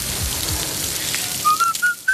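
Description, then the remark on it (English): Beef burger patties, made to order from whole cuts of beef from farms across Britain and Ireland with salt and pepper, sizzle with a steady, dense hiss and crackle, joined toward the end by a few short, rising high-pitched whistling tones. “That sizzle speaks louder than words.”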